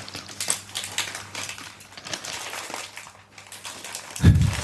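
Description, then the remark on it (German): A blue Kettle sea salt and balsamic vinegar crisp packet is squeezed and crumpled, giving a steady run of sharp, dense crackles and crinkles for several seconds, ending with a soft low thump. “Du kannst doch nicht einfach den Tüten zusammendrücken, dann spritzt das doch halt alle nicht.”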